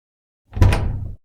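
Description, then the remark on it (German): A door handle is tried against a locked door: one short rattling jolt with a low wooden thud as the door holds fast. No voices. “Abgeschlossen? Die Tür ist abgeschlossen?”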